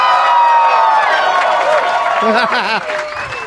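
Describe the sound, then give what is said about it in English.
A packed crowd at the Acme Comedy Club in Minneapolis, Minnesota cheers and whoops loudly on a Saturday afternoon, with steady applause and scattered high shouts blending into a dense, continuous roar that eases slightly near the end. “This is a great crowd packed in at 4:20 in the afternoon.”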